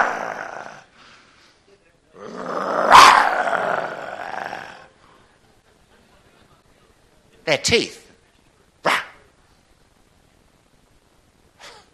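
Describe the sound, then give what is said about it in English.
A person lets out a loud, raspy growl lasting a couple of seconds, mimicking a lion, between bits of talking and a few short sharp noises. “Scary lion.”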